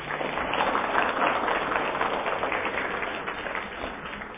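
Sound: audience applause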